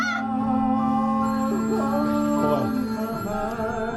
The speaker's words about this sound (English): No, that's a fake phone that's ringing there